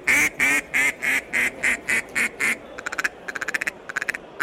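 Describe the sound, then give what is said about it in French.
A hunter's mallard duck call, used to lure game, is blown: a steady run of about nine loud, raspy quacks, then a quick burst of short, clipped chattering notes, with no talking. “Ça c'est du canard colvert”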